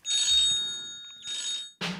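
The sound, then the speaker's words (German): A guest's mobile phone rings with bright, buzzy electronic bursts, two long rings separated by a short pause, followed by a brief noisy clunk at the end; the call goes unanswered. No one speaks. “Ihr Handy, Frau Solfrank. Es hat doch noch mal geklingelt”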